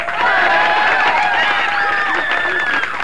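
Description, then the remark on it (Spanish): A live studio audience at a a band live performance, recorded for radio, shouts and cheers steadily for a few seconds, a dense wash of overlapping voices with rising whoops and yells, loud and sustained throughout. “Esto no es un cine, loco, así que griten, vayan”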